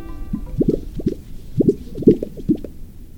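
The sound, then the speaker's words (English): Courtship sounds of the Gunnison sage grouse, one of the rarest birds in the United States: a run of low, wet, bubbling pops and plops in quick irregular clusters, some louder than others, with no voices. “You're hearing the courtship sounds of one of the rarest birds in the United States.”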